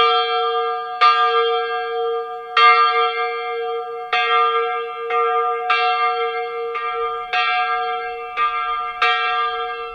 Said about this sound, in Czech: Beseda nazvaná Hlasy jihočeských zvonů začne ve 13 hodin a určitě na ní nebude chybět ani nejstarší český zvon, který se nachází ve Zdíkovci na Šumavě.